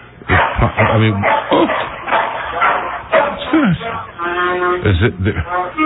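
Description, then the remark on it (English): A dog barks in short, sharp bursts over a muffled, phone-quality line, with voices talking steadily underneath and around the barks. “Listen, call that dog over to the telephone.”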